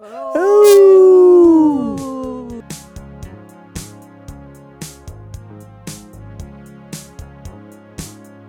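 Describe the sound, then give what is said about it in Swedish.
A dog lets out one long, loud howl that slides downward in pitch over about two seconds, then a steady, rhythmic music track starts with evenly spaced beats. “Det ylar vi på.”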